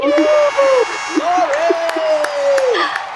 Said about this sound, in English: Wow, thank you so much. I wasn't expecting that round of applause.